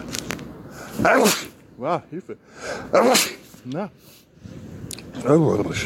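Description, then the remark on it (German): Three loud, explosive sneezes, set off by looking into the sun, burst out a couple of seconds apart, with short voiced sounds and a few spoken words in between. “Müsst ihr auch niesen, wenn ihr in die Sonne schaut.”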